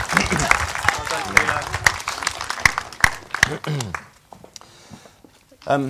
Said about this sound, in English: Should we give him a round of applause?